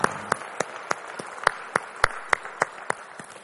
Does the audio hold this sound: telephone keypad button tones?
no